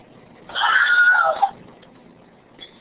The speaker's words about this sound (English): Another example is the film industry's Wilhelm scream.